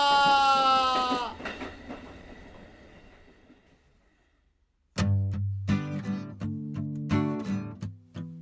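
A train sounds a brief horn and rumbles past, its noise fading away over a few seconds, followed by silence and then a loud burst of bright, stacked musical chords.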